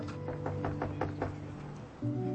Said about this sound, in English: She rounds a corner and makes her way to the steps leading up to the Eleazar's room. Climbing them, she lifts her knuckles to the door.